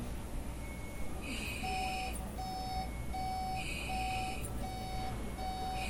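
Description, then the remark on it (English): A heart monitor in a hospital room beeps steadily, short electronic tones repeating about every half second, layered with higher chiming tones over a constant low room hum. Nobody speaks. “In a hospital room, waves and numbers appear on a heart monitor.”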